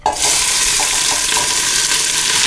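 A large amount of onion frying in plain sunflower oil in a wide pot for perkelt: a loud, steady hiss of sizzling with crackly pops throughout, starting abruptly and holding constant for the whole clip with no talking.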